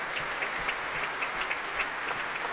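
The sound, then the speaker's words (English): Sustained applause from the players of a young orchestra after a performance of a Ravel work, a dense even patter of claps with no pauses, steady in loudness across the whole stretch, with no voices breaking through. “Big smiles, lots of applause from the players.”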